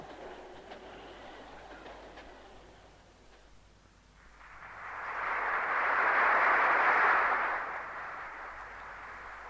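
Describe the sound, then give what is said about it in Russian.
A train rumbles along with a rattling clatter of wheels as it slowly approaches a city, swelling louder as it draws near, then easing off slightly. No one speaks. “Поезд медленно подходил к городу.”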